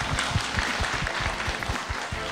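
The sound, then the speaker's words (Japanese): Steady applause from an audience welcoming the president of the company Alconix to speak, many hands clapping continuously at a moderate level, with no one speaking over it. “皆様拍手でお迎えください。”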